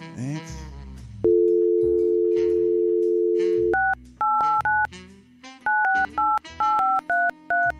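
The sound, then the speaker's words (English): A steady dial tone hums for a few seconds, then gives way to a quick run of about eleven paired-pitch keypad beeps as a phone number is punched in, each short tone separated by brief gaps. “Sarah, I'm keep you on hold while I make this phone call, okay?”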